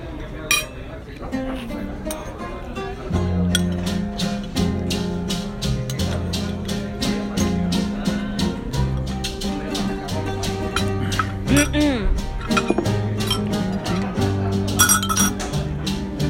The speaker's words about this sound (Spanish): Sí, me gustó cuando hacían eso en las novelas. ¿Qué? El ruido de los cubiertos.